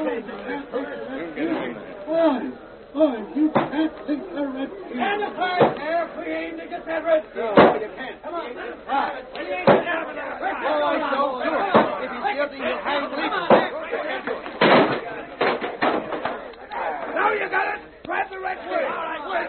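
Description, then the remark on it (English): An angry mob approaching a jail, at its other door, shouts in a continuous, overlapping roar of voices, broken by sharp, loud bangs or thuds scattered throughout. “The mob's at the other door right now.”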